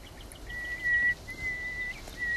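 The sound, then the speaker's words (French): A nightingale's position call, which opens its song: thin, pure whistled notes, two drawn-out ones and a short third, clear against a soft hiss of outdoor background with no voices. “Alors il commence toujours son chant par son cri de position, et après il décline son identité, il donne son âge.”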